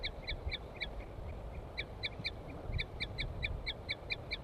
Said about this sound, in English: That's the female. Female, toots.